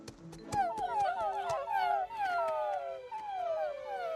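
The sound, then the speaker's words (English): Several puppies whimper together in overlapping high-pitched whines that rise and fall in drawn-out, pleading glides for about four seconds, fairly loud, over a faint steady hum. “Everybody give him cute puppy eyes! And don't forget to whimper.”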